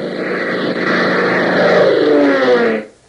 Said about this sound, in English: Gail closes her eyes and listens to the drone of the engines, realizing that each revolution of the propellers is carrying her farther and farther away from help.